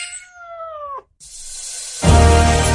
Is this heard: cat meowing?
yes